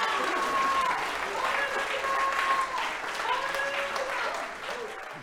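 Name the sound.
audience hand clapping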